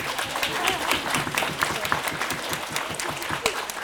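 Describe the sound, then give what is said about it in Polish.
An audience at a concert applauds, with many hands clapping in a dense, steady patter that holds at a fairly even loudness for the whole few seconds. “Także brawa.”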